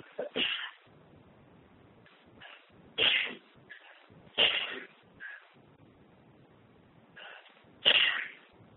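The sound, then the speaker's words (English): A person has a sneezing attack, four sharp bursts spread over several seconds with quieter breaths and sniffs between them, fairly loud with no talking. “Excuse me, I have a sneezing attack.”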